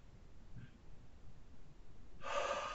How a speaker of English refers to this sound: I would even recommend that you start it with a breathing exercise. You know, five in, one out.